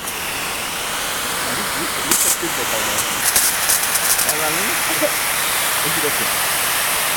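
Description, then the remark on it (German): A steady, loud rushing hiss of water blasting from a fire hose nozzle held by hand, a strong jet spraying far, fills the whole clip, with faint voices talking underneath the continuous spray. “Ich durfte gerade mit dem Schlauch wassern und das war richtig cool.”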